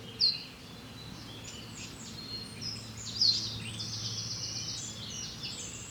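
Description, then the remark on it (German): A wren pours out a fast, rattling trill of high notes over steady outdoor ambience, with a great tit calling more faintly in the background and a couple of sharp chips standing out. “Der ist so klein, der Zaunkönig, der muss natürlich laut scheppern, dass man ihn zumindest hört, oder?”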